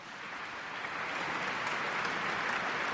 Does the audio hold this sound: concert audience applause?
yes